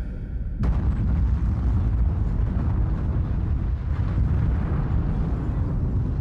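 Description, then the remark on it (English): A sudden, powerful blast erupts close by, followed by a sustained, heavy rumble that rolls on for several seconds without fading, loud and deep with no voices. “That explosion sounded close by.”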